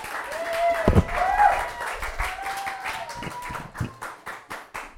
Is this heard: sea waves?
no